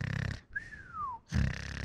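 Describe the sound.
A person imitates a high-pitched, pig-like nasal snore by vibrating the nasal area: two buzzy snorting bursts in quick succession, separated by a brief, thin whistling tone that slides downward.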